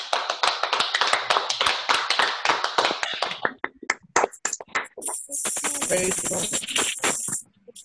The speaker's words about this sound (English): Give up a round of applause, everyone.